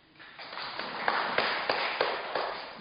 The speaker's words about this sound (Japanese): これをですね、拍手拍手拍手。